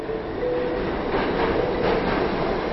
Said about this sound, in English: A year ago, my day would start with a train ride alongside thousands of fellow commuters into Manhattan.